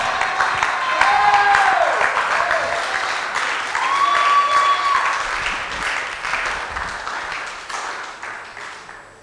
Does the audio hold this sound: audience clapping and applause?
yes